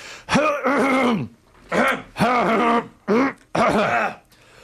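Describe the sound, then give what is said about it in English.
A radio host clears their throat on air into a microphone about one centimetre from the nose, right up close and loud, five rough, groaning, voiced bursts in an uneven rhythm with brief pauses between, and no talking. “Why is it that I always try to clear my throat the minute I get on the air?”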